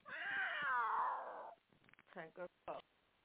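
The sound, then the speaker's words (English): A pet bird, saying good night, gives a long, loud, wavering call that slides downward in pitch for over a second, followed by a few short, voice-like squawks after a brief pause. “That's my bird in the background, you hear him? Saying good night.”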